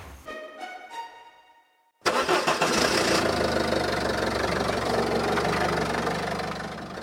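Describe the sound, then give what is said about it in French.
The engine of an old car belonging to a vintage car club in Franche-Comté cranks briefly, then catches with a sudden loud roar and settles into a steady, rumbling idle. No one speaks. “Je me souviens encore du bruit du moteur, avant même de voir la voiture.”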